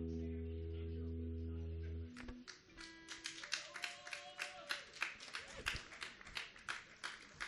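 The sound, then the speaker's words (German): A sustained musical chord rings out and cuts off at the end of a song, then an audience breaks into steady applause for the guitarist, many hands clapping in a dense, irregular patter that continues to the end. “Bitte noch einen Applaus für den Christian Wimmer an der Gitarre.”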